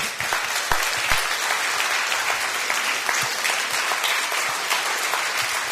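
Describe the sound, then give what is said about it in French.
Steady audience applause thanking a speaker, a dense wash of many hands clapping at once, sustained and fairly loud throughout with no voices standing out. “Je vous propose maintenant d'applaudir et de remercier Marie.”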